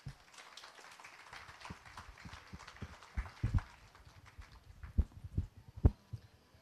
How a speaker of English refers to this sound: So let's give a round of applause for my girls.